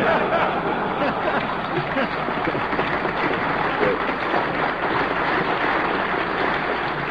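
Loud, sustained applause and a standing ovation from a large crowd at the National Press Club for AFL-CIO president George Meany, a dense continuous roar of clapping at steady volume throughout, with a faint murmur of voices and occasional laughter mixed in.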